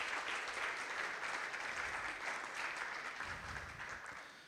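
A crowd applauds steadily, a dense wash of many hands clapping at an even, loud level that tapers slightly toward the end.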